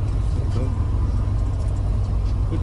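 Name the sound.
car engine running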